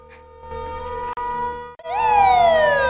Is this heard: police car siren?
yes